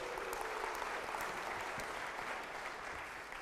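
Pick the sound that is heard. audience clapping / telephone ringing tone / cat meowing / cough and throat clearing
audience clapping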